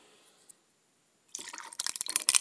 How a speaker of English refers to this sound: And then fill till it nearly covers the ice cubes.